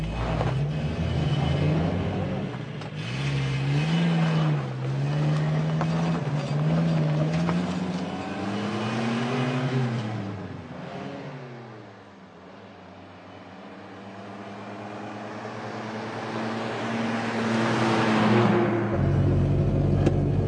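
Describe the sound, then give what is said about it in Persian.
A car engine roars for the whole stretch, its pitch climbing and falling as it revs and shifts, briefly easing off before surging loudly again. “را بیفت شانس آوردیم ملق نشدیم. خط ترمز رو حال میکنی آجی؟”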